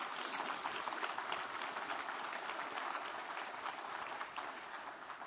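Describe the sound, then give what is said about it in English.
An audience applauding steadily for several seconds, a dense wash of many hands clapping at once with no voices on top, holding level before easing slightly at the end. “Come on, give him a good clap off.”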